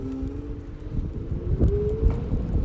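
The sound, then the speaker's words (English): An electric Lime rental e-scooter rides through Paris. Its thin motor whine holds steady and then rises slightly in pitch over a continuous low rumble of wind buffeting and rattling bumps from the road. “So it sounds pretty smooth, right? I'm using Lime, one of Paris's three rental services.”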